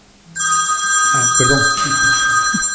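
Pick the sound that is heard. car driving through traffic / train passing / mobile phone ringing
mobile phone ringing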